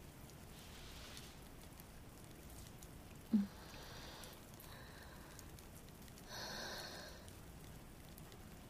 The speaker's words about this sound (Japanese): 雨止まないわね。どんどん強くなっているみたい。